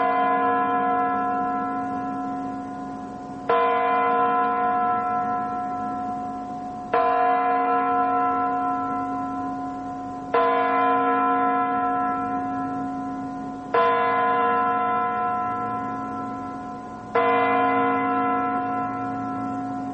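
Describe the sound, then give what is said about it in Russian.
A clock chiming midnight: six heavy, resonant bell strokes at slow, even intervals, each ringing out and fading before the next. No voices. “Ударов часов для мировой культуры — это, конечно же, звук сакральный.”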